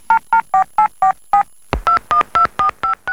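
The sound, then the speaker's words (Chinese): Mu Xiujian dials Zhang Mingshan's mobile phone at 1 pm in the Air Force General Hospital, Haidian, Beijing. A rapid series of about eleven short, evenly spaced keypad beeps, with a brief pause after the first six, clear with no voices. “已经是下午一点了，穆修建又拨通了张明山的手机。”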